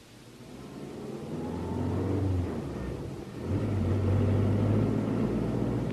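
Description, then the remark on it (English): A car engine rumbles and revs up, easing off briefly before accelerating again into a steady, loud drive; low engine drone throughout with no voices. “The car's over here.”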